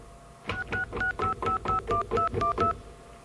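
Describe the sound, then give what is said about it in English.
A rapid run of about ten touch-tone telephone dialing beeps, dialing 666 information, each short dual-tone press evenly spaced and clear, with no one talking. “Well, let's get an operator because, let me try calling 666 information, see if that works.”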